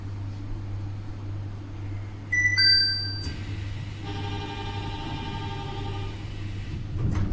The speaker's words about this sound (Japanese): 番線日暮里行きドアが閉まります。